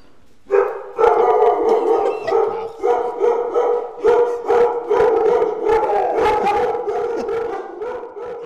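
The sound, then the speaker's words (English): A chorus of ten dogs at an animal sanctuary on Wyoming's eastern plains barks and howls at once, loud, with overlapping yelps and sustained howls forming a continuous, chaotic din. “So you'll have to adjust your levels for 10 barking dogs when we first get back there.”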